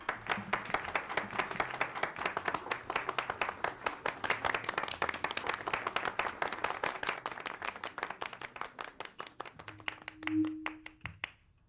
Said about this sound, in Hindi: तालियां बजाएं भाई।